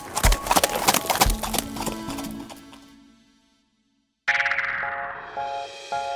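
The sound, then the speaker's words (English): Horse hooves clip-clop in a quick rhythm, fading out into silence, then a bright chiming melody with steady tones begins. “People have been riding horses to get where they need to go for way longer than they've been flying space shuttles.”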